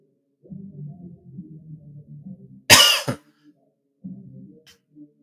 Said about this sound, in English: Coughing again.